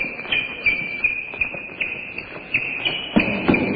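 Quick, steady running footsteps thud along in an even rhythm while a continuous high-pitched tone rings over them; no one speaks.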